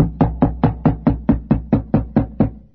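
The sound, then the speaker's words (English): A steady series of about eleven firm knocks on a wooden door, evenly spaced, each a hollow thud with a quick decay, no voices present. “And then there'd be a knock on the door.”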